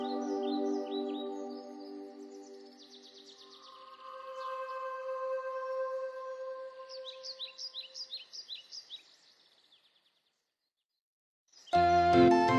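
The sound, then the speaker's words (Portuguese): A mimicking songbird, imitating other birds' songs, runs through a varied medley of rich whistled phrases, rapid trills and bursts of sharp chirps, loudly, then falls silent before a sudden louder sound breaks in. “Nem mesmo os pássaros da mais bela música são salvos de ser plagiados pelo pássaro dos mil cantos.”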